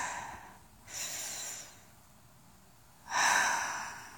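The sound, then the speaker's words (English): Two short, breathy bursts of coughing and throat clearing, fairly quiet, separated by a couple of seconds of near silence, with no one talking. “Sorry for all of the coughing and the throat clearing. I hope it's not too loud.”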